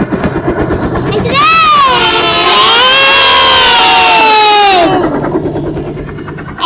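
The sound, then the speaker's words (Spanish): A lively audience bursts into applause and high-pitched cheering, with children's shouts swelling loudly for a few seconds before settling back into a noisy crowd murmur. “Muy bien, un aplauso también.”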